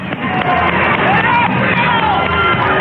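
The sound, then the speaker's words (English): A large outdoor crowd at the US Capitol applauds and cheers as Bill and Hillary Clinton arrive on a very cold day, in a steady, dense roar of clapping and voices, with occasional higher shouts rising above the din throughout. “Holding hands, the Clintons are coming in to, as you hear, warm applause on a very cold day.”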